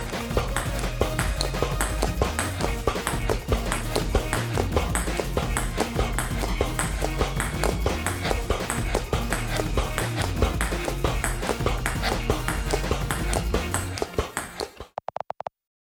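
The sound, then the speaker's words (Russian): Quick, steady clicks of a ping-pong ball bouncing off a wall and being batted back by mouth, 47 times in 30 seconds in a record attempt, then caught in the mouth, repeating loudly for the whole stretch over a bass-heavy backing track, then cutting off abruptly. “Наибольшее количество мячей для настольного тенниса, отскочивших от стены и отбитых ртом за 30 секунд.”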